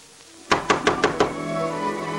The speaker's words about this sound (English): banging on a lady's door. I'm scandalized at you.